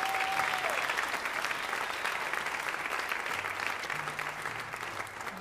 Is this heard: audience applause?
yes